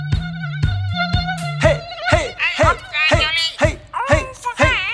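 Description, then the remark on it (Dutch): A voice imitates a lazy mosquito with a steady, nasal buzzing hum in short stepped tones, then continues in wavering, zooming pitches over a regular beat of thumping percussion in a Dutch exercise song. “Ga maar liggen op je rug. Zoom nu als een luie mug.”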